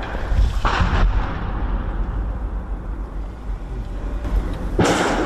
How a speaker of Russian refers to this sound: Снаружи блиндажа – перестрелка.